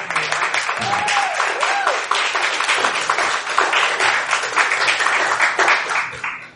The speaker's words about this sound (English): So, give a round of applause to those guys.